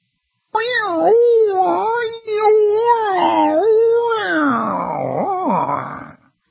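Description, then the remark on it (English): A person's voice mimics whale song with one long, loud, unbroken moaning call that swoops up and down in pitch, wavering and gliding for about six seconds before trailing off. “It's like whale song. A whale can hear another whale at 400, 500 miles away just whistling.”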